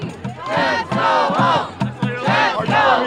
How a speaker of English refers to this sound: There are people chanting, James, go home, James, go home. People are screaming at him.